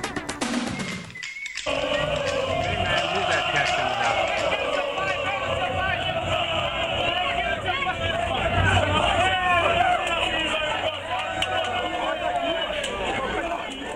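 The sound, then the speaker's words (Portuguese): The Flamengo basketball team whoops, shouts and cheers together in their locker room after winning the Liga das Américas. It is a dense, loud, continuous wall of overlapping excited voices that starts abruptly after a brief pause and never lets up. “Esta é a gritaria do vestiário do Flamengo, campeão da Liga das Américas.”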